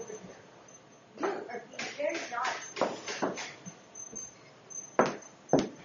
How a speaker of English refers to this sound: People coming in and out of the house, and the dog is getting very upset.